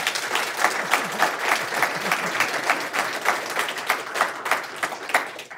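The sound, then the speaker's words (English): An audience at an Open to Debate debate on the threat of Iran applauds steadily, a dense patter of many hands clapping at an even loudness for several seconds, with no talking over it. “Okay, and the last question is, despite the fact that very few of you changed your minds, did any of you hear anything that will go into your thinking about the issue that maybe you hadn't included before, just by a round of applause?”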